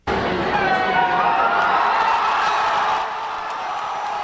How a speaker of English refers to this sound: There was quite a bit of cheering when the TV networks called it for President Obama.